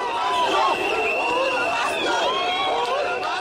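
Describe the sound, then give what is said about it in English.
A large crowd of Odinga supporters in the streets of Nairobi, Kenya, cheers and shouts continuously after the Supreme Court ruling, many overlapping voices rising and falling in a loud, dense roar with excited yells throughout. “Supporters of Odinga poured into the streets, cheering and waiting for another chance to elect their candidate.”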